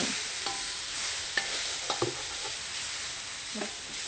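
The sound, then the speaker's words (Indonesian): Steady sizzling of food sautéing in oil in a wok, broken by several scraping clacks of a spatula stirring, without any talk. “Seandainya kurang minyak, boleh ditambahkan di kualinya, ya.”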